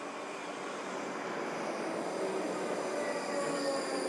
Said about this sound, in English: Wait there. Train coming. Don't know where it's going.